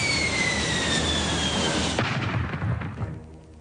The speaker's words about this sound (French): Alerte, alerte, alerte, alerte. Un avion s'est écrasé, un avion s'est écrasé, un avion s'est écrasé, un avion s'est écrasé.